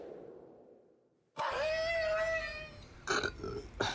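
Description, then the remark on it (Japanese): After a near-silent pause, a loud, drawn-out burp rings out for more than a second, followed by a couple of short bursts of voice. “はい、ということでね、 いや、 はい、 ゲップをなかったことすんだよ、 ね、ゲップ、それはちょっと、それはすいませんけど、よろしくお願いしますよ、”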